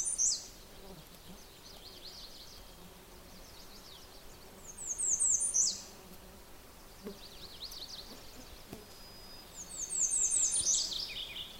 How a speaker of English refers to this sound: The other one I'm hearing is a morning warbler. If you'll sing again. There, cheery, cheery, cheery, choy, choy, choy. That's the morning warbler.